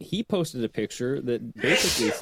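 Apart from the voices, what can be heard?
sneeze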